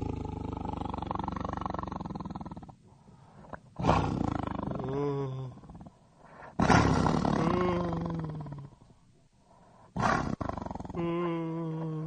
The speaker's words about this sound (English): I could seriously use some help. There's a tiger in here.